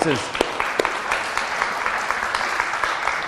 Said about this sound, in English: So I think you should give yourself a round of applause for that.